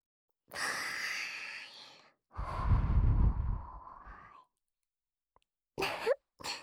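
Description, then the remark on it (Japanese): Two long, airy breaths blown out in soft whooshes, the second lower and fuller, followed after a pause by a couple of short, quick puffs of air, warm breath blown into the listener's ear. No speech. “妹のあったかーい吐息を耳で感じて恥ずかしくなってきちゃった。”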